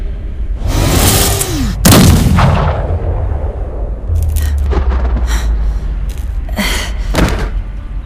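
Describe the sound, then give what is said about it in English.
A heavy triple-barrel hand cannon fires several loud, booming blasts at irregular intervals, each one a sharp crack followed by a long rumbling decay, with no voices present. “A triple-barrel hand cannon got the job done just fine.”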